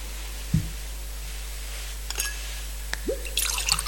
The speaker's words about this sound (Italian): L'acqua unita al vino, se il segno della vita divina.